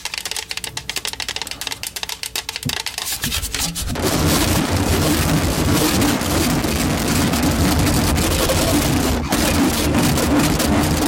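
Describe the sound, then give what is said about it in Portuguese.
A kitchen grater scrapes, first in light, separate strokes, then for the last seven seconds in a steady, loud, gritty rasping. No one speaks. “E o ralador?”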